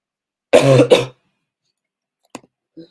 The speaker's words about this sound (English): I'm so sorry. I'm ending a little bit early today just because I'm coughing a lot.